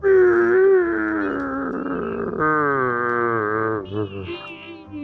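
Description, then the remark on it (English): A voice lets out a long, loud, drawn-out imitation of Yoda burping, a growly croak with harmonic tones that sag and jump in pitch over about five seconds. “That's how Yoda burps.”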